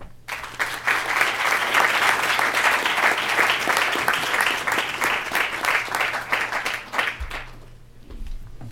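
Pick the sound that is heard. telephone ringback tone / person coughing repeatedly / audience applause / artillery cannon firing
audience applause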